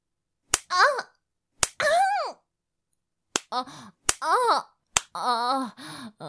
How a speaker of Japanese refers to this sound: みんなでもっとよ。もっとぶって。ビンタして。おっぱいビンタ。もっと強く。